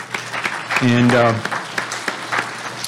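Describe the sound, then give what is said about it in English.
An audience at the Feast of Tabernacles, on its seventh day, claps to God the Father and His Son Jesus Christ in a dense, steady burst of applause that runs the whole time, with a voice briefly calling out over it near the start. “And that clapping is to God our Father and His Son Jesus Christ, and it's nice to see God working through all of you.”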